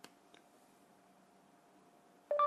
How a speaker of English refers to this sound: Every time I'm taking the phone next to my ear, you hear the beep, then I start to talk.